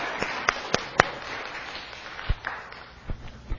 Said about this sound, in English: You can clap